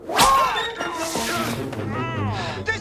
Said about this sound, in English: Three swats spring up and slap them.